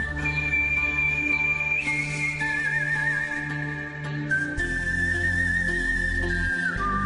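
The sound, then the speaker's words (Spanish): A clear, sustained human whistle by a whistler carries a slow spaghetti western melody with wavering vibrato, set over a full orchestral backing with deep, steady low tones, loud throughout, no voices. “Porque …, ¿sí?, participó en La muerte tenía un precio y en otras películas poniendo su silbido al servicio del western, del spaghetti western.”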